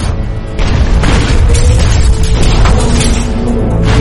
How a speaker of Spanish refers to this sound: La onda sísmica provocada por la explosión rompió uno de los tanques de lastre y algunas tuberías.